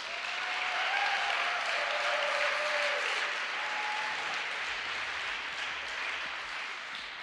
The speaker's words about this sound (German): Schön, dass ihr jeden Sonntag einfach mit dabei seid und ihr kriegt auch einen richtigen Applaus von uns hier.